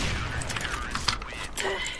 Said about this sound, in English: I think those people are still doing some fireworks. Oh my god, dude, that is so annoying. There are people around us that do fireworks, and that's really annoying.